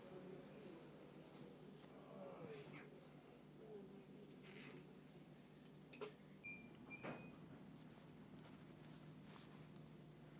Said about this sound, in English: And the doors have just closed. There hasn't been a single announcement. I hope and pray that this is the right train, but the fact that it's going at dead on 7:32 would suggest that it is.